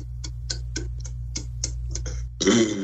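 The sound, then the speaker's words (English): A person doing a burping exercise on command: a steady series of about ten quick, clicking gulps, evenly spaced and counted, is followed by a sudden loud, rough burp with a low, throaty tone that cuts off the sequence. “It's good burp.”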